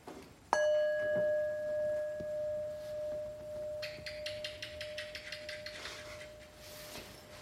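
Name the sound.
meditation bell ringing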